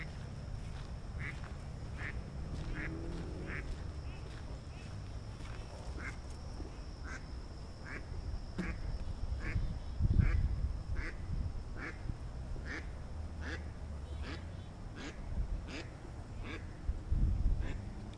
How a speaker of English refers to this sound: Walking through a park with a duck pond. Can you hear the ducks? And the insects.